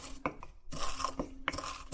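Toasted spices being pounded with a pestle, a series of crisp crunching strikes repeating irregularly over a couple of seconds, with no voices.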